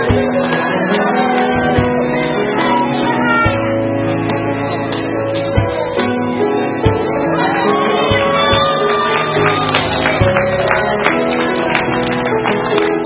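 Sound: children clapping and cheering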